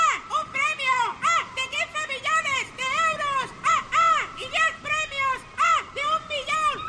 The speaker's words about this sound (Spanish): Si este verano estás mirando el mar, pasa una gaviota y oyes...